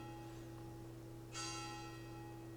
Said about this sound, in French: Mais c'est pas possible, toutes ces cloches. Qu'est-ce qui se passe?